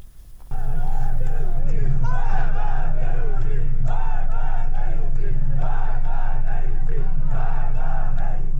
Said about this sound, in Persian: در ویدیوهایی که در شبکه‌های اجتماعی منتشر شده، معترضان از جمله شعار مرگ بر گرانی، مرگ بر رئیسی و مرگ بر خامنه‌ای سر می‌دهند.